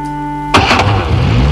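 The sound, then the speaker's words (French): A truck engine starts up: a brief whining crank, then it catches with a sudden loud roar and settles into a steady rumbling idle. No one speaks. “J'ai les clés du camion. Peut-être maintenant que les esprits se sont vengés, Ils me laisseront démarrer. Je vais voir si ça démarre.”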